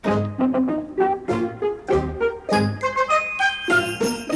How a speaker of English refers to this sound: Jingle, jingle, jingle. You will hear my sleigh bells ring.